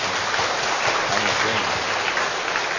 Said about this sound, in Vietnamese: Bây giờ có một chúng ta dâng lên Chúa và Đức Mẹ một tràng pháo tay nhé. Dâng lên Chúa.